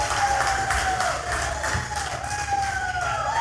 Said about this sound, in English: I got my own cheering section tonight, so I guess that means the check's all cleared.